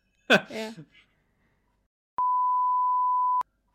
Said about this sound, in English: Spoiler. We'll beep it. We'll beep it.